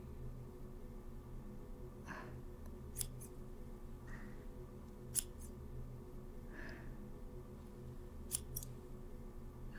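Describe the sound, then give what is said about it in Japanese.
Crisp scissor snips trimming only the ends of hair, working from one side, a few sharp clicks spaced irregularly over a soft, steady background hum with no talking. “大丈夫、私も自分の髪よく切ってるし、毛先しか切らないから安心して。こっち側からチョキチョキして整えていくね。”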